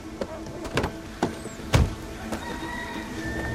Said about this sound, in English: Outside a graffitied building, the police car parks.